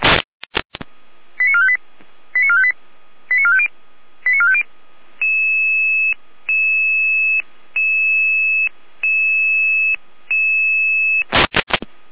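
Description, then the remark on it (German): Red Cross emergency dispatch alert tones: after a few sharp clicks, quick groups of chirpy beeps give way to a steady run of long, evenly spaced electronic tones, ending with bursts of radio static. “Jeder mit Alarmierung.”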